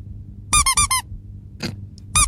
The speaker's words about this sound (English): Richtig. Eine Quietscheente. Das gab es noch nie und das wird der Hammer.